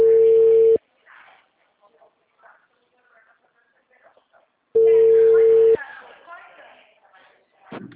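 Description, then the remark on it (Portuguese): A telephone ringing tone: two loud, steady mid-pitched buzzing rings, about a second long and spaced roughly four seconds apart, with faint murmuring voices in the gaps. “Chama.”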